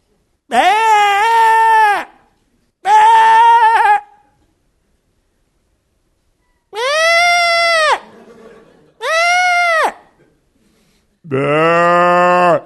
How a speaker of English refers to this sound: But seriously, sheep can really lift up their voice.